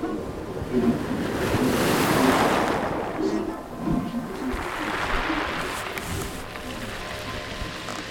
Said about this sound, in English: Muffled sounds greeted my ears before I could make out the rustling of cloth, clicks, voices, and the pounding of surf on some distant shore.